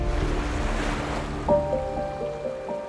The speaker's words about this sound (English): Dawn broke over the Mesogeios Sea. Gentle waves lapped upon the smooth, rocky beach.